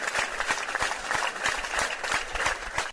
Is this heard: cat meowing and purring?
no